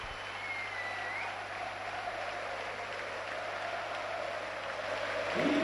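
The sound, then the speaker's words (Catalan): A large stadium crowd at a Villarreal football match gives a standing ovation as Gerard Moreno is substituted, applauding steadily in a dense, continuous wash of clapping that swells slightly toward the end, with no voices standing out. “Entra Buchanan per Gerard, tot el món li aplaudís, tot el món l'ovaciona, se ho mereix.”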